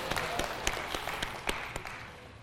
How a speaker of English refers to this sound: Give the system a round of applause, please.